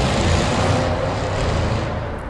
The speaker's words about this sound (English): Don't know if you heard that, some type of car, a V8 must have gone past, made a bit of noise.